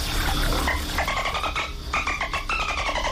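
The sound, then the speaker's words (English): Dolphin vocalizations underwater: a rapid, steady series of squeaky, buzzy pulsed calls with bright harmonic overtones, repeating over a low watery rumble, with no voices present. “No, that's just dolphin going, lads.”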